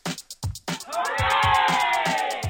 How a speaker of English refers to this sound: All right, people. I think it's about time to get that energy back, and we'll do our shout-outs. So we're going to do some shouts. Hip, hip, hooray! Hip, hip, hooray!